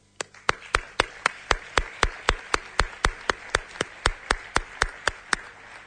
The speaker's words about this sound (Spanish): que pido un fuerte aplauso para él y que se acerque ya aquí para dejarnos constancia de lo que es su arte.